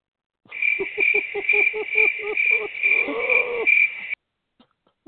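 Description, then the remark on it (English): Crickets chirp in a steady, shrill trill, joined by rapid lower pulsing calls, lasting several seconds before stopping abruptly. No one speaks. “Number two, I want to give crickets to all the deadbeat baby mamas.”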